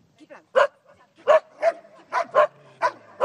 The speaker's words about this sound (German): Und da hat es ganz einen Haufen Hunde. Heute reden wir ja über Hunde oder lassen wir die Hunde reden. Die sind ganz still, rund um mich herum hat es einen Haufen verschiedenste Arten von Hunden.